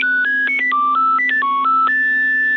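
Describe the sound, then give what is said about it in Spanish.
The classic Nokia mobile ringtone plays loud: a quick run of bright electronic beeping notes in a lilting phrase, ending on one long held tone, over a steady low hum. “Si tuviste algún Nokia, seguro tuviste este ringtone en alguna oportunidad.”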